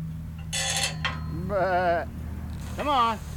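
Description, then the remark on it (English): White-faced sheep, a breed prized for pure white wool but here stained an oily, sooty black, bleat twice on a small acreage just south of Ponca City, Oklahoma, each call a loud, wavering, quavering cry, after a couple of short rustling bursts over a low rumble of background noise. “John Hoke runs a herd of white-faced sheep, a breed prized for pure white wool”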